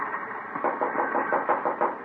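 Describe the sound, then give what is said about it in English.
A series of muffled knocks rap on a locked train compartment door in a quick, uneven rhythm over a steady rumbling background, fairly soft. “Yeah, it's locked. Knock.”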